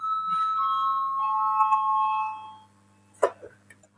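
A sustained electric bell in a parliament chamber rings steadily for about two and a half seconds to call a vote, a bright ringing tone with harmonics, then cuts off, followed by a brief clatter.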